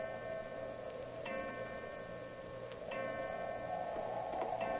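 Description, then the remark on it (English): A clock ticks slowly and faintly, a few evenly spaced ticks over a steady low hum, with no one speaking. “Eleven o'clock.”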